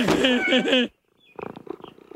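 A cat purrs loudly with a rich, rumbling trill for almost a second, then after a brief pause, softer pulsing purr sounds follow.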